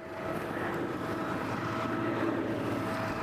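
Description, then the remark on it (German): A propeller plane drones steadily overhead, a continuous low engine hum with a faint tonal whine, holding at an even moderate loudness for the whole stretch with no voices. “Das ist jetzt aber ein Motorflugzeug da oben.”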